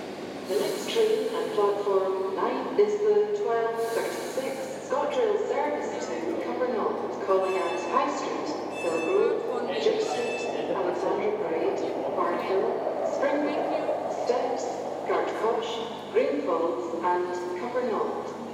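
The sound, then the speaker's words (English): Steady rumbling noise of an underground subway train in motion, the 12:42 train from St George's Cross to Buchanan Street, with a low droning hum and occasional high metallic squeals, while people talk indistinctly over it throughout. “I recorded us on the underground, that's what I was doing.”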